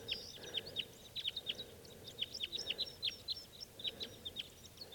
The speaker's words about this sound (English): Big flock of crossbills just flew in here. There must be about 6 birds. And they're type 2s.